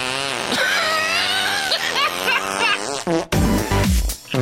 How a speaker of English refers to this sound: It's going to get smelly in here. Big fart, little fart, smelly fart. Big fart, little fart, smelly, smelly fart.